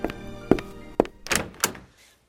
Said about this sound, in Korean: 그러나 그가 편지를 쓰고 있었던 탁자로 앤이 걸어갔을 무렵 돌아오는 발자국 소리가 들리더니 문이 열렸다.